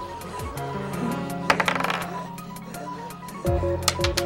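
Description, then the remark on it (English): Dice clatter across a hard table in a quick run of sharp clicks and rattles during a zombie-themed tabletop game, thickest around the middle, with steady background music underneath. “I'm pretty sure I'm using one of my three dice.”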